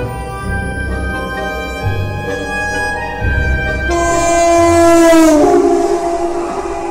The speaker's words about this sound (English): I was on a train, bound for a dour little town in the northeast of England.